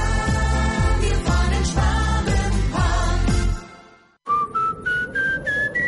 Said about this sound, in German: Durch Ihre Haustür pfeift's, dann ist sie wohl nicht ganz dicht.